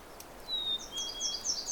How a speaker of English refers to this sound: That's the territorial and courtship song of the chickadee. And this is not the same pair I watched excavating a hole in an old tree down the trail. This is quite a ways from there, so I'm assuming this is a different pair.